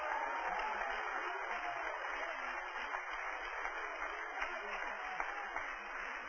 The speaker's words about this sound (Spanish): ¡Que un aplauso a Dios si puede!